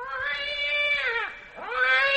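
cat yowling

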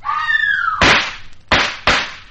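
gunshots

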